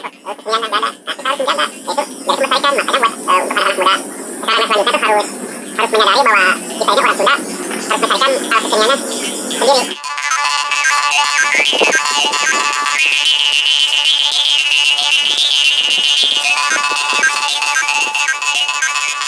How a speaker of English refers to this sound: there was a glimpse of traditional instrument from Western Java called Kalenjin